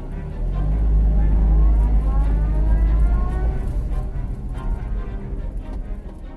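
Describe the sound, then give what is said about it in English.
Mr. Fu's car pulling out of a driveway: a steady, deep engine rumble that swells, then gradually eases off as the vehicle moves away. No voices. “The three boys skipped their tuition class that day and waited until Mr. Fu's car was out of the driveway.”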